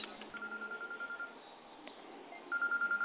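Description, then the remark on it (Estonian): A telephone signals an incoming call with a rapid series of short, evenly pulsed electronic beeps, thin and band-limited as if heard over a phone line, pausing briefly before a second, louder burst. “Nüüd on mul teine telefon.”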